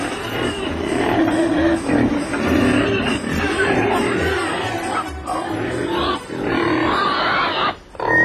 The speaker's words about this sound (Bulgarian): Май имам нужда от свинар. Ние имаме тук много свине.